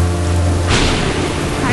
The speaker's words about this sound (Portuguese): Tempestade de novo. Relâmpagos, trovões.